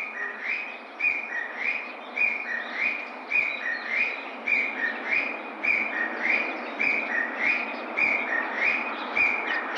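Wild birds call outdoors on Tobishima island, Japan, a well-known birdwatching spot in this season, in a steady, repeating series of bright chirps, roughly one per second, over a constant wash of wind or surf noise. No one speaks.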